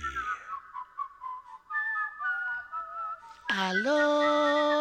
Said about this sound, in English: Aloha. This is Auntie Maria Lani, and will you stop that whistling? It's driving me nuts.